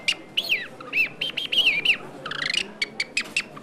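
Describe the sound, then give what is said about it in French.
A bird whistle imitates a songbird's call in Paris: a lively run of sweeping chirps and warbles, then a rapid trill and a few sharp, evenly spaced tweets, with no talking. “Vous écoutez votre oiseau et vous reproduisez ce qu'il fait avec votre apôtre.”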